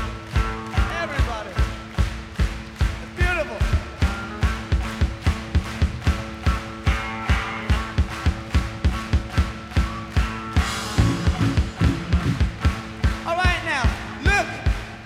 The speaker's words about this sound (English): Can we try and get everybody just to stand up for 1 minute and clap their hands with us?